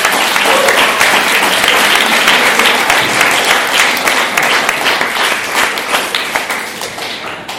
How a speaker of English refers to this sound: And so at this point, we should give a round of applause to our wonderful panel.